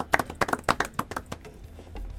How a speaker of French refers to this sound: Bonne réponse. L'Empire du Mali. On applaudit très fort pour l'élève